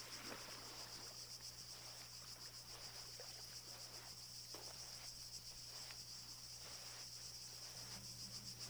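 Grasshoppers and locusts whir in a steady, high-pitched drone with a fine rapid pulse, continuing throughout over a low constant hum and occasional soft rustles, beside a meandering path worn by goat hooves as someone walks along. No one speaks.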